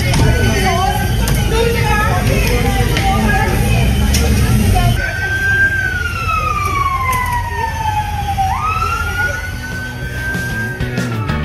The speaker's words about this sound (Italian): Una notte di caos e violenza, e quella che sentivate erano gli audio di alcuni interventi dei vigili del fuoco che hanno dovuto spegnere gli incendi che erano stati appiccati nelle strade di Belfast.